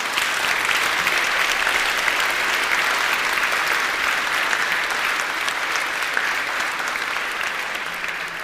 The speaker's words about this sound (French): Donc il est là. Alors applaudissons aussi la présence de Jésus.